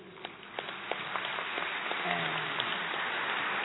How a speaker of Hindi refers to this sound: और जोरदार तालियां शिवानंद जी महाराज के लिए। 126 वर्ष की उम्र, इतनी बुलंद आवाज, इसीलिए कहते हैं कि योग सब कुछ सहज कर देता है, सरल कर देता है, जीवन को श्रेष्ठ बना देता है।